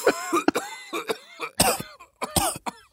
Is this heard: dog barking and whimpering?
no